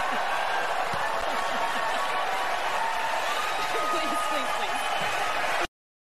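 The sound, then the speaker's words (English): A crowd claps, throws their arms up and cheers on a woman speaker as she refers to the governor of Florida, a steady, dense wash of applause and voices that holds at an even level for several seconds, then cuts off abruptly. “They're all clapping and throwing their arms up and cheering her on as she refers to the governor of Florida”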